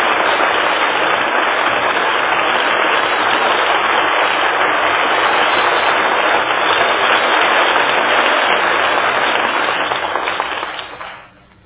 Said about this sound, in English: That well-earned applause deserves a curtain call.